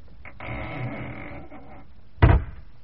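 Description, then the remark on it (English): A heavy wooden cellar trap door creaks and scrapes for over a second as it is closed, then drops shut with a single loud thud that briefly rings out. No one speaks. “Close the trap door.”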